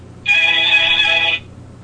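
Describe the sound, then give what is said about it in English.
A single steady electronic Verizon phone ringback tone sounds for about a second, fairly loud, then cuts off, leaving a faint low hum and no voices. “Please enjoy this Verizon ringback tone while your party is”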